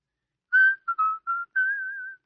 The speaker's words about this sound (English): how many times do I have to ask you not to whistle that awful tune? You taught it to me, darling. Yes, dear, but that was 3 long years ago. Besides, you can't whistle well at all.